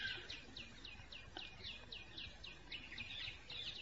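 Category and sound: bird, birds singing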